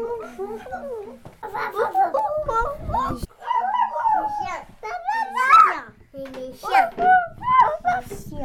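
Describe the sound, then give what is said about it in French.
Young children's voices make a run of short, yelping bark-like cries, copying a dog, in quick bursts with brief pauses, fairly loud. “Les chiens.”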